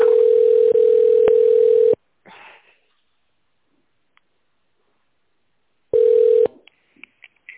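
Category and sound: signal or alarm, telephone ringback tone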